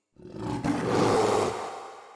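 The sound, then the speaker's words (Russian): A deep, loud monster roar bursts in close by at night on a dark road strewn with broken glass, a single sustained growling bellow lasting about two seconds before trailing off, with no voices present. “И тут оглушительный рев раздался совсем рядом, заставив девушку на мгновение остановиться и оглянуться.”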